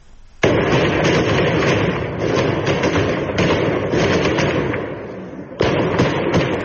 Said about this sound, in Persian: سنندج رو که صدای شلیک نیروهای انتظامی به سوی مردم معترض است.